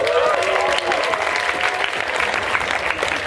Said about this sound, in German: Das da ist Lady Macchiato. Applaus für Lady Macchiato!